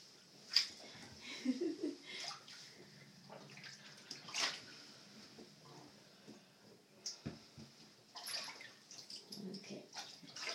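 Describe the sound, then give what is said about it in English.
Water sloshes and splashes in a bathtub while a dog is in the tub, in quiet, uneven bursts, with a few sharper slaps against the tub between softer swirling movements, fairly faint. “Weird, I don't know how this water is standing there, but it is.”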